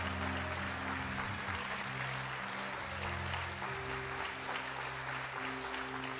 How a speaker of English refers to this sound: And so I want you to honor Bishop this morning with a hand clap of praise and appreciation for him.